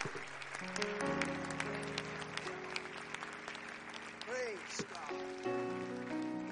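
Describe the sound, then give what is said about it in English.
An audience claps steadily in thanksgiving to the Lord, a dense, continuous burst of applause, with sustained organ-like chords underneath and a voice briefly rising above the clapping midway. “And you cap that off with a hand clap of thanksgiving to the Lord God for his word tonight.”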